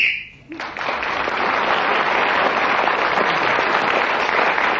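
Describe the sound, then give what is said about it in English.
A short, steady high-pitched whistle blast lasting about half a second, blown to end a round of the game as Clement Freud was speaking and earning him an extra point, followed at once by loud, sustained applause from a crowd that continues evenly to the end. “So, Clement Freud's increased his lead, speaking again as the whistle went, getting the extra point,”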